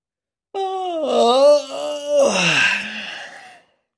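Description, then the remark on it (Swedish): A child's long, drawn-out yawn, rising into a voiced moan and ending in a breathy exhale, over about three seconds, as a girl in a children's story yawns and rubs the sleep from her eyes. “Selma gäspar och gnuggar sömnen ur ögonen.”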